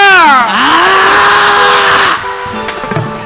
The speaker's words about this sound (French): Quelqu'un crie.